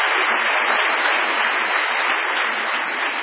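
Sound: audience applause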